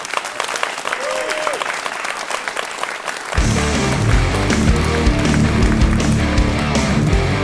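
A large audience claps steadily, a dense crackle of many hands that swells noticeably louder and fuller partway through and carries on strongly to the end.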